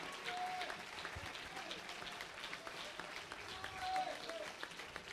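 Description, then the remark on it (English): An audience claps their hands in a steady, dense wash of applause, with faint voices calling out underneath. “My God, clap your hands and lift up your voice unto Him.”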